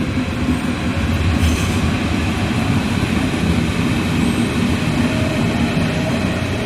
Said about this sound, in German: Wenn ich hier so in die S-Bahn reingucke, ist um 6.30 Uhr schon ganz schön was los. Und schön viele Menschen schon drin.